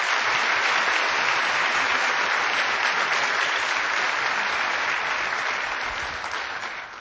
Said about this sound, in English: You can go ahead and applaud for her.